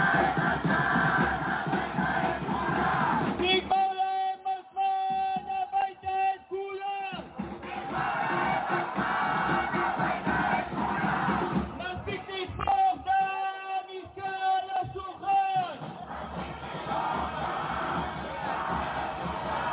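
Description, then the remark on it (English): A large crowd of protesters roars and chants continuously, with shouting voices and rising bursts of loud rhythmic yelling, dense throughout with a dull rumble underneath. “let's take a listen to the commotion in this enormous crowd of people that are protesting”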